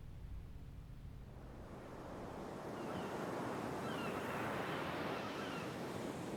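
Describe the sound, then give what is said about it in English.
Ocean waves rush and break against the shore in a continuous, swelling roar of surf that grows louder midway and stays full, with no voices. “When anxious, uneasy, and bad thoughts come, I go to the sea, and the sea drowns them out with its wide sounds, cleanses me with its noise, and imposes a rhythm on everything in me that is bewildered and confused.”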